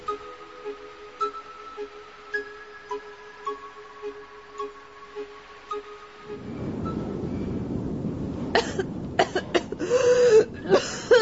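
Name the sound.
woman coughing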